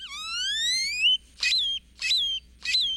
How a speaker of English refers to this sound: Or jumbled and metallic, like this great-tailed grackle's.